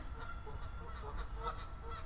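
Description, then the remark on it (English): Distant geese honk repeatedly in a loose, overlapping chorus, faint but clear above a steady low rumble of outdoor background noise. “I can hear geese honking far away.”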